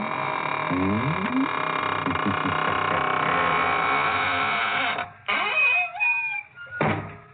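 A long, loud, drawn-out creak of a door swinging on squeaky hinges, groaning and warbling in pitch, followed by a few shorter rising squeals as it finishes closing.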